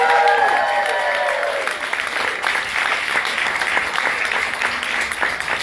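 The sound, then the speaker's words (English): Loud, sustained audience applause for a talented group of performers fills the whole clip, a dense steady patter of many hands clapping, with a few cheers or whistles rising over it at the very start before settling into continuous clapping. “Let's hear it for this talented group of people.”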